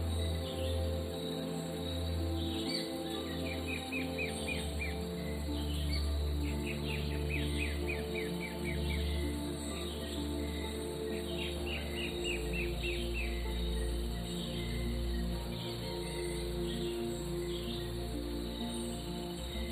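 Several birds chirp and trill in quick repeated bursts over a steady outdoor ambience, with a soft continuous hum of insects or rustling underneath. Nobody speaks.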